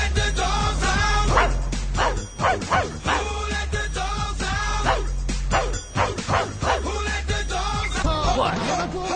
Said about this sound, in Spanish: Con un ladrido, pero en el mejor sentido, recibimos a Juan Grosso.